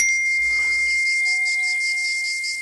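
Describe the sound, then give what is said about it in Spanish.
A WhatsApp message notification chime rings out clearly on its own: bright electronic tones holding steady, with a lower tonal layer entering partway through, and no voices. “Y con WhatsApp ha llegado un fenómeno interesante. Este que escucha para mal.”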